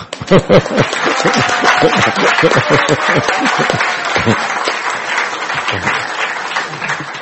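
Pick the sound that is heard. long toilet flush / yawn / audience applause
audience applause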